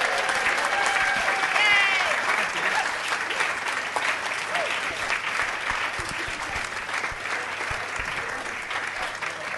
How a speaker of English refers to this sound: So can you give a round of applause to these guys as they exit the stage?